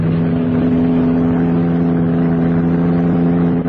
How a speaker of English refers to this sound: Get ready. Sports car. Going past the car.